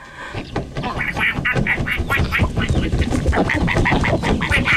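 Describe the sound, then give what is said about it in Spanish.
A flock of ducks quacking steadily, many overlapping nasal calls in quick, uneven bursts, fairly loud, continuing throughout with no pause. “Pero tuve un sueño donde yo volaba detrás de una bandada de patos.”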